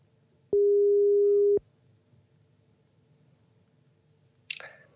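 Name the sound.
telephone ringing tone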